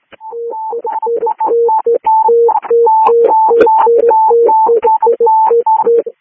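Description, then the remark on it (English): Radio dispatch alert tones sent while dispatching ambulance 354 to a change of quarters in Woodstock: two electronic pitches alternating rapidly in a loud, steady warbling pattern for about six seconds, slightly distorted and crackly, with no voices. “Dispatching 354, did you want tones? CCOM, that's affirmative.”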